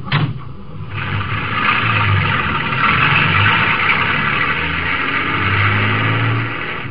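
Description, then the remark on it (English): A truck engine rumbles steadily on a highway at night, idling loudly with a deep throb, its pitch swelling now and then as it revs, running continuously with no voices. “I was hoping it was your truck.”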